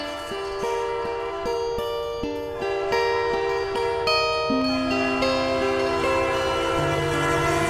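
A train horn blares in long, steady tones that shift pitch, with a faint rhythmic clatter of wheels on the rails underneath. No one speaks.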